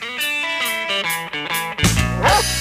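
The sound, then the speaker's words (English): A run of dog barks, apparently pitched and sequenced into a short melody like a jingle, loud, then giving way to a burst of bright music. “Lost your dog? Found someone else's dog?”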